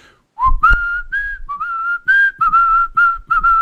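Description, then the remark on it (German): Loud mouth whistling, a series of sustained, slightly wavering tones in short bursts with brief gaps, the pitch stepping up and down slightly between notes. “Du kannst sehr laut pfeifen, ja.”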